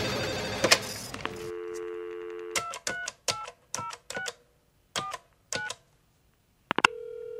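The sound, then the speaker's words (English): An outgoing phone call to a mobile phone: a brief clatter as the handset is lifted, a steady dial tone, then about eight crisp keypad beeps at an uneven pace, ending as a new tone starts on the line. “The mobile phone customer you have called has travelled outside the coverage area.”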